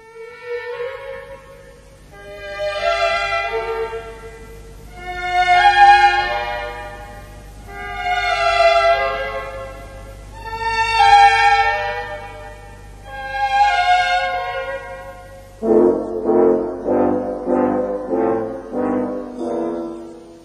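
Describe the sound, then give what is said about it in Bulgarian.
Trains bound for Vienna and Munich sound their horns as they depart a station at the same time, after the station master raises his staff: five long, swelling harmonic blasts follow one another, then a rapid run of shorter pulsing toots closes the sequence. No one speaks. “Началник гарата издига своя жезъл. Влаковете потеглят едновременно.”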